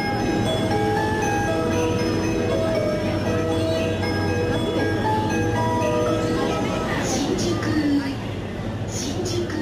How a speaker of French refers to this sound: Mais oui, des mélodies de quai qui signalent aux usagers l'entrée des trains en gare et leur départ.